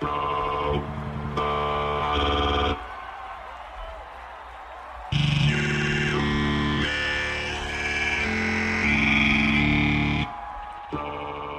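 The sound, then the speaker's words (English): Loud, sustained electronic chords swell and shift over a constant roar of cheering crowd at the opening of a Coachella set as the performers take the stage, briefly dropping to a low rumble before blasting back in with brighter, piercing synth tones. “And you could hear the palpable excitement from the crowd as the robots take the stage.”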